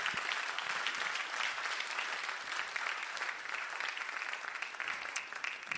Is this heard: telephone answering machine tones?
no